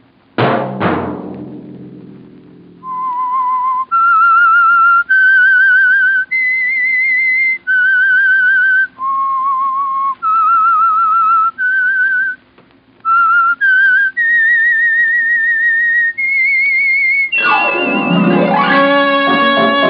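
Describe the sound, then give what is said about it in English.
The whistled theme melody of the radio show The Whistler, about fifteen clear held notes rising and falling in pitch. A sharp musical hit opens it, and a loud orchestral chord ends it. “Monday at 9 o'clock, the Whistler will bring you another strange tale.”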